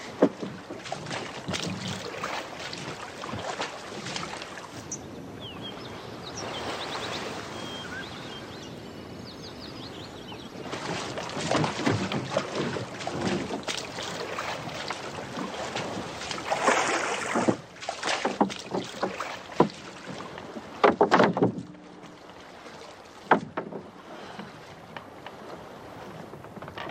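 A small rowboat moves across the sea, water splashing and sloshing against the hull in uneven bursts, with wind noise and steady lapping waves throughout.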